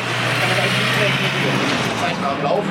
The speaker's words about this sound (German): Immer wieder fahren Autos durch die Kundgebung in Richtung Betriebshof.